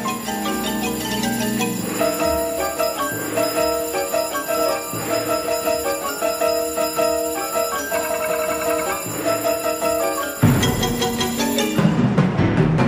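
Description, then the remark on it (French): A loud, dense clatter of player pianos, xylophones and ringing bells hammering out rapid repeated notes, with a whirring propeller roar surging in near the end. No voices. It is from Anteille's score for Fernand Léger's film Ballet Mécanique, written for 16 player pianos, 3 xylophones, 7 bells, 3 propellers, 4 drums and a tam-tam. “Ici, pour traduire cette impression de folie que vous entendez, Anteille a utilisé 16 pianos mécaniques, 3 xylophones, 7 cloches, 3 hélices, 4 tambours et un tam-tam, un vrai tohu-bohu.”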